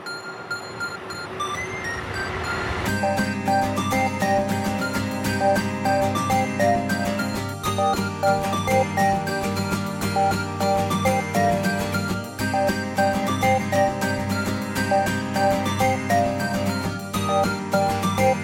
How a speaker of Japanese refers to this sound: はい、ということで今回も一曲をお届けいたしましょう。